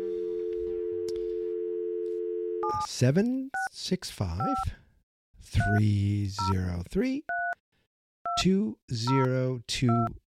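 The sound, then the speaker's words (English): A steady phone dial tone gives way to a string of short keypad beeps as a number is dialed, with voices talking between the clusters of tones. “All right, let's dial this sucker up.”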